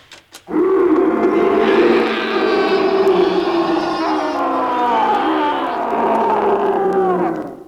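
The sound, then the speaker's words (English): A tiger lets out a loud, drawn-out roar that rumbles into growling for several seconds, alone, after a couple of short grunts. “Now, The first thing to do when you're being stalked by an ugly mob with red currants is to release the tiger.”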